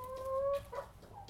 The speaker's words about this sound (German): So, ja, und das war jetzt der Hühnerstall. Die Hühner sind hier fleißig am Fressen.